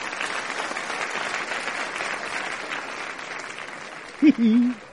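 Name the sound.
round of applause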